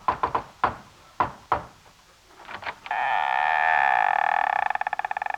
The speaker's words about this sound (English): So with typical courage, at noon, Fearless Osgood called an emergency conference, which was to be completely open and above board, down in the boiler room. I arrived after lunch and knocked.